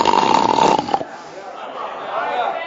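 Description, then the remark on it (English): A voice imitates a loud, rasping snore in one drawn-out burst lasting about a second, followed by quieter murmuring and faint background noise. “That's the way we go from bragging and boring to snoring.”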